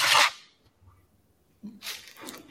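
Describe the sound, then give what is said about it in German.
A paper page being torn out of a notebook to hold chewing gum: a short, loud rip, a pause, then a longer, rougher tearing sound. No one speaks. “Hast hier du gerade ein Stück Papier für dein Kaugummi wieder rausgerissen?”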